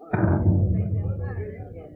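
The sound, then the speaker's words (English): A single shot of the fever cannon in New Orleans booms out with a sudden heavy thud, carried on a south wind, then rolls away in a long, low rumble that fades slowly over the next two seconds. “Oh, well, that's just the fever cannon from New Orleans. You can hear it when the wind's right.”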